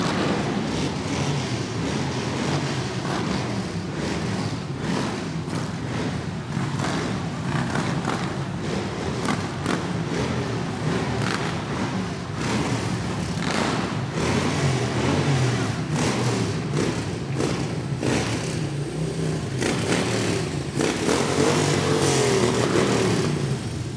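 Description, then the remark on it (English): A dense, continuous roar of a motorcycle gang's engines rumbling and revving together, loud, holding steady for the whole stretch and swelling slightly near the end, with no talking. “If you listen, you can almost hear the thunder of their engines where the shepherds break through.”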